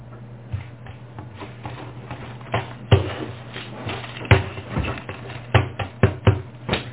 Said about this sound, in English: Yeah, that's the paper being ripped. That thing's gone.